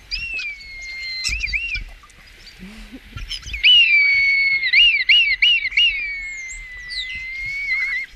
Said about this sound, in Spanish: Y el auténtico es... Este sí que es un estornino. Ahora el auténtico con cuatro. ¡Ay! Ah, lo remata mejor. ¡Ostras, qué bueno!